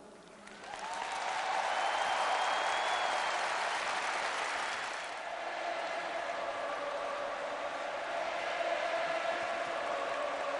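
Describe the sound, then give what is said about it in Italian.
A large crowd bursts into thunderous, sustained applause for Pope Benedict XVI during his apostolic journey in Brazil, a dense roar of clapping that swells quickly and holds steady for about ten seconds, with faint cheering whistles mixed in. “Il Papa vi ama, ha detto interrotto da un fragoroso applauso.”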